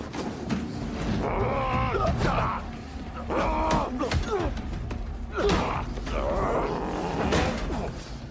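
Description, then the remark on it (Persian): A chair creaks and knocks during a struggle, with strained grunts, groans and heavy breathing over several seconds, punctuated by dull thuds. “جنگیدن با صندلی دوتا دست میخواد.”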